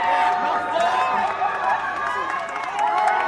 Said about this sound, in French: La musique joue, tout le monde est en train de courir vers la sortie gardée par les CRS du Palais de Justice. Et on lève les bras et on crie victoire.